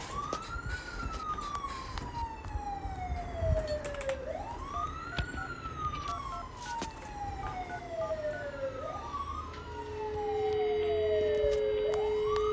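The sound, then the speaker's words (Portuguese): A security alarm at a glass and windows store, triggered at zone 2, the side window entrance, wails in repeated slow cycles, each tone rising quickly then sliding down over a few seconds, loud and continuous with no voices, joined by a steady high tone near the end. “Estou ligando aqui para informar de um disparo que deu no lojão dos vidros e janelas.”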